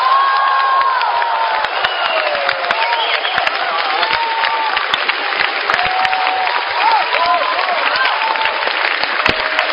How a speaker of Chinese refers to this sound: 好的，接下来请您欣赏相声《神马都是浮云》， 掌声有请郭德纲、于谦。